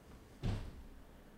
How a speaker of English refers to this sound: My wife trying to break down the door.